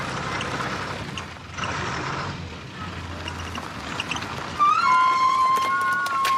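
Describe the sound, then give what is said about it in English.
A bus engine rumbles and strains as it reverses on a mountain road by a steep drop-off, mechanical clatter throughout, then a loud, steady high-pitched squeal cuts in near the end and holds. “The bus reverses.”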